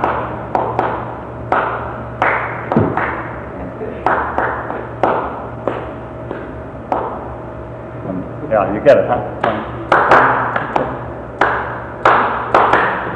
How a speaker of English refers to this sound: I was trying to think of the second tune called Cooper or Cowper. Second tune, who can clap it? There is a fountain filled with blood.